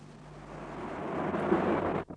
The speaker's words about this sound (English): But come back before the storm breaks. I hate being on my own in thunder.